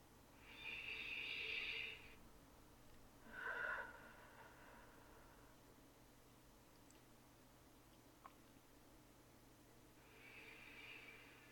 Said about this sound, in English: That's right. Just listen to my voice. Match your breathing to mine. Hold that gentle, steady rhythm and allow it to wash away all the stresses and tension that we don't need.